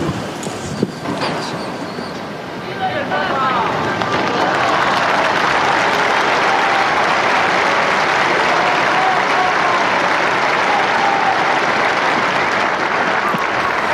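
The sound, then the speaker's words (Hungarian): A large crowd bursts into applause after a papal blessing, starting moderately and swelling within a few seconds into a dense, sustained roar of clapping that continues steadily. “Ma sem marad el a szokásos taps és a Szentatya köszöntése, az ő szavainak, az ő áldásának a megköszönése, és talán mivel hallottuk, hogy sok fiatal van, ugye ők is hallatják a hangjukat, lehet, hogy ezt még hallják a kedves hallgatók is,”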